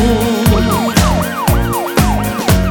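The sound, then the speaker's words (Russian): A police siren wails in quick rising-and-falling sweeps, repeating steadily, loud, over a pounding rhythmic beat with sharp hits about every half second. “и вновь включив мигалку, на помощь я лечу.”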